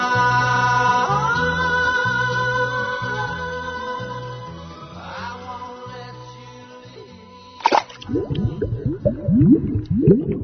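Music plays steadily for most of the stretch, then gives way to wet splashing and sloshing with irregular knocks as dishes are washed in a kitchen sink by the director of a centre. No one speaks.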